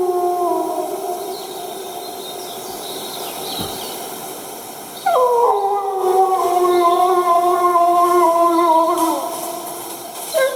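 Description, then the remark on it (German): A wolf howls at medium distance, long sustained wavering tones with harmonics, a second drawn-out howl rising in around the midpoint and holding steady. No voices, just the howling over faint background. “Wolf aus mittlerer Distanz. Da ist einer.”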